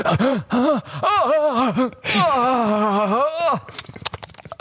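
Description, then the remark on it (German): A voice imitates the pained scream of someone whose tooth nerve was being drilled at the dentist: loud, wavering wails that rise and fall in pitch, a brief break, then a longer drawn-out cry trailing into breathy, ragged noise. “So hat Ekan ungefähr geschrien, als sie seinen Nerv gebohrt haben.”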